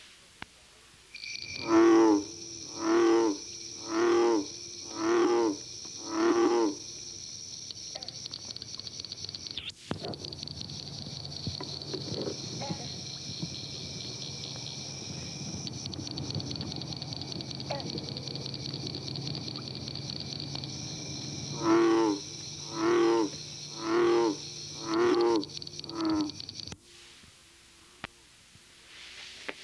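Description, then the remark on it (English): A deep bullfrog croaks in two series of about five evenly spaced, resonant calls, separated by a quieter stretch, while a steady high-pitched chorus of northern cricket frogs and bronze frogs trills continuously in the background. “It is heard here with a background chorus of northern cricket frogs and bronze frogs.”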